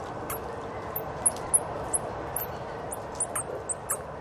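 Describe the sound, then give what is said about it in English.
Mexican free-tailed bats, a colony of 10,000 to 20,000, squeak and chirp under a bridge about 20 miles south of Sacramento, California, in quick, very high-pitched bursts. A dozen or so sharp calls are scattered irregularly over a steady low rumble of traffic from cars overhead. “If you can tune out the cars overhead and listen very carefully, you can hear the squeaks and chirps.”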